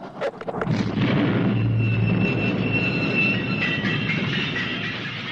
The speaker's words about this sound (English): Again, an amazing cut to a beautiful shot of Peter O'Toole holding up the plunger on a, you know, explosive device and blowing up that train.